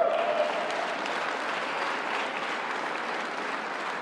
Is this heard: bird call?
no